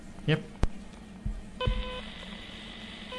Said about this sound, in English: by simply pushing the transmit button and then dialing in on the touch keypad here, which is a bit like a telephone keypad, the number of the station that I want to connect to. I'll just do one now. So this looks like a phone, like a handheld phone.